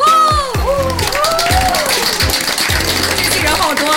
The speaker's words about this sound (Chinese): 哇，好多人爆棚， 终于不用假营销了， 真人在鼓掌，好开心呢、 今天现场非常的火爆，